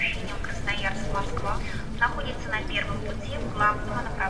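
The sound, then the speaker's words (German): Busy railway station ambience at Novosibirsk station, Russia, in snow, as workers sweep snow from the overpasses: a steady low rumble fills the space while indistinct voices murmur and call out, with no single sound standing out. “Der Bahnhof von Novosibirsk. Arbeiter fegen Schnee von den Überführungen.”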